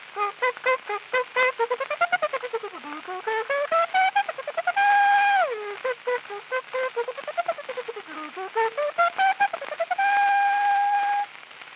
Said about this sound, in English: Long paper horn.